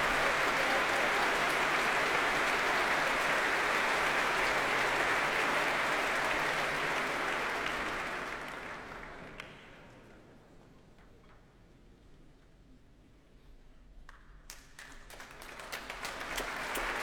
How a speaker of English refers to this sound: And applause now for the guest leader of the BBC Symphony Orchestra, Helena Wood.